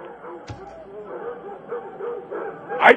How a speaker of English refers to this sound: You're at a kennel and all I'm hearing are freaking dogs. I'm waiting for my dog to be brought around the back.